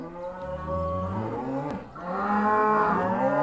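Two long, deep moos from cows at a farm, one after another with a brief pause between, loud, with no talking.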